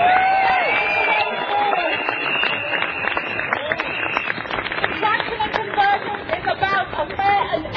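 A crowd applauds a banner about contraction and convergence at a climate talk with steady, dense, rapid clapping, mixed with cheers and a few high whistles early on, the loud ovation holding for several seconds before thinning slightly toward the end.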